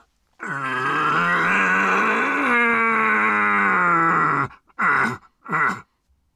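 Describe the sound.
A person imitates a red deer stag's rut call as a hunting lure: one long, loud, hoarse roar of about four seconds, then two short, grunting bellows, all low and gravelly.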